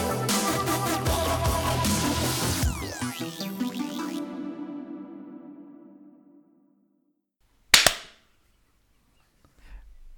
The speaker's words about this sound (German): Okay, das war der Klatscher. Sehr schön.